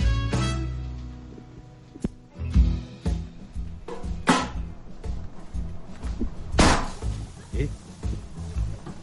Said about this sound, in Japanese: 何か爆発した ね。ねえ、すごい音がしました。 なんだこの音は。 はい、 なんかお米がはじけてお菓子になるような音がしましたね。 おお、ポンって音がしましたね。 はい、ポンっていうお菓子かな。